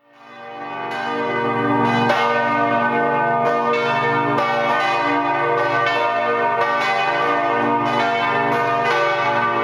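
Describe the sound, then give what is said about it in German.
The bells of the Catholic Marienkirche, a neo-Romanesque brick church with a 60-metre tower in the Rheingauviertel, ring out in a dense, overlapping peal, strikes arriving roughly every second with long shimmering tones that build and sustain, loud, with no voices. “Ganz im Gegensatz dazu präsentiert sich die katholische Marienkirche, deren Glocken wir gerade hören.”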